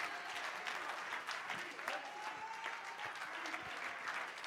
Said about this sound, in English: Can you clap your hands and give the Lord some praise?